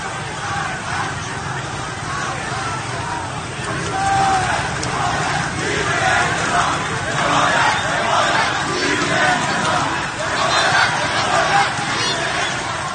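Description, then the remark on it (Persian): A large crowd of protesters chants and shouts in the street in Rasht, Iran, on a Friday, a dense, steady roar of many voices that swells louder in waves. “شهرهای مختلف ایران به شمول تهران، رشت، قم و کرمانشاه روز جمعه نیز شاهد مظاهرات گسترده مردم علیه بلند رفتن قیام بود.”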